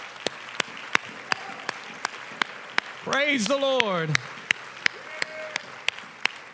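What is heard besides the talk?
audience hand clapping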